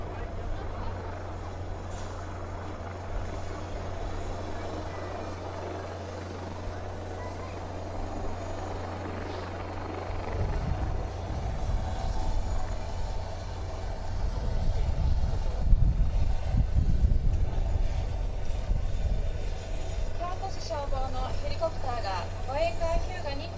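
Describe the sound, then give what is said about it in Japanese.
A red Kyoto City Fire Department aviation unit helicopter carrying medical supplies lands on the deck of the escort ship Hyuga: steady rotor drone and engine whine, swelling into heavier, louder thumping wash about halfway through as it settles down. “医療物資を乗せた京都市消防航空隊のヘリコプターが、護衛艦ヒューガの甲板に着艦するところです。”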